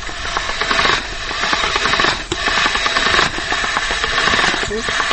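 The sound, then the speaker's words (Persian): A motorized meat grinder churns steadily, a loud, rasping whir with a gritty, slightly pulsing texture as meat previously cooked in a steam pot is forced through to make kebab, with brief dips in the drone now and then. “خب حالا گوشت امرای سیر در دیگ بخار که قبلا مجهوش شدیم او را از ماشین گوشت میکشیم.”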